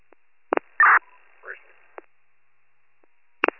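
A few short electronic tone bursts on a narrow phone-like line, one longer buzzy tone in the middle and a faint warbling sound, separated by silence, as a telephone callback is attempted.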